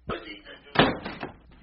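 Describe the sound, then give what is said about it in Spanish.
A door is pushed shut with a heavy slam, followed by a couple of softer thumps and knocks as it settles, all within under two seconds at moderate loudness. “Cierren la puerta.”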